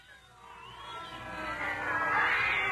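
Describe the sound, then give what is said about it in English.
Cats yowl and caterwaul in a rising, wavering chorus, the drawn-out wails swelling louder over a few seconds with no talking. “What is that sound? A plague of cat's pits.”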